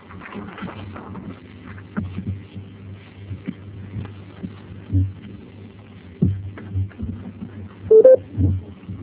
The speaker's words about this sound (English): I heard that beep sound. Hello, who just joined us?